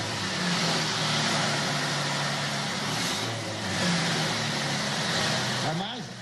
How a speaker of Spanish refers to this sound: Ahí está. Viñoli me consiguió el sonido ahí. Pero hay un momento cuando están acelerando, que no acelera, que hace. Y ya Viñoli me grabó. Ay, es eso. A mí me encanta el sonido un motor V8 de la F1. Es un camión tan bonito.